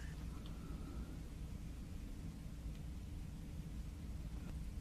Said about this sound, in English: I walked over to the TV set and turned it on to a dead channel. White noise at maximum decibels. A fine sound for sleeping. A powerful, continuous hiss to drown out everything strange.